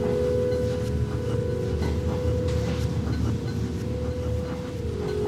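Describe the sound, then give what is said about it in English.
A train rumbles steadily along the rails, a continuous low roar with a faint hum and scattered clicks and rattles, heard from inside the carriage with no talking. “I feel more at home on the train than in my house these days.”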